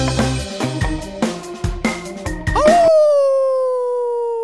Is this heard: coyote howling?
yes